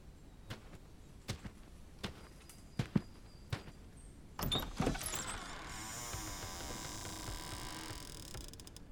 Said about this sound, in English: You push open the door and step inside.